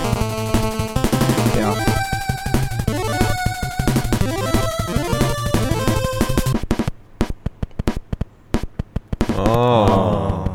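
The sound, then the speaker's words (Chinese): Retro 8-bit music from the game Ninja Gaiden III, with a bright chiptune melody over sharp, crunchy low-fidelity sampled snare drum hits that repeat in a steady beat, then briefly stand almost alone before the music swells back in. “就是我给大家听一下，这个是《忍者龙剑传三》， 嗯， 大家听一下这里面的鼓是用采样做的。”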